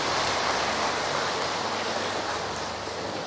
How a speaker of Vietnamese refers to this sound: Nên thay mặt cho Chư Tôn Đức, Tăng Ni và Linh Mục ở đây, thầy xin tán thán những người mà đã sống trên đời khen nhiều hơn chê. Xin cho ông tràng pháo tay.